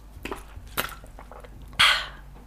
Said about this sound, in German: Und das ist jetzt auch der einzige Schluck, den ich im ganzen Gespräch genommen habe, okay?